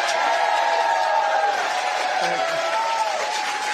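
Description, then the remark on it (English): A crowd claps steadily and loudly for the full stretch, with cheers and shouts rising through the dense wash of applause, a round of applause for Virginia Governor Glenn Youngkin. “A round of applause for your governor.”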